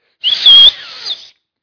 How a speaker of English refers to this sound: And so when I had to return, my dad would go to our porch, and he would whistle, and he would do this.